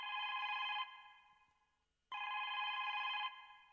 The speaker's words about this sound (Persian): اجازه بدین که من تلفن جواب بتام.